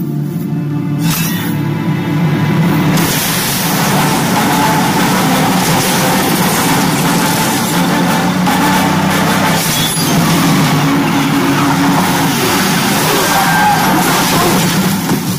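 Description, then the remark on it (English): A car engine runs loudly and steadily, a continuous low rumble with gritty mechanical noise that shifts slightly in intensity for the whole stretch. “That car. What's that? The car not start. What happened? The engine.”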